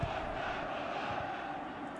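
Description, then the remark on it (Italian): A dense, steady roar of Bologna football fans chanting in a stadium during a match, one continuous wash of voices with no clear pauses and no single voice standing out. “Fa sentire i tifosi del Bologna, non tantissimi, no, in realtà sono un buon numero.”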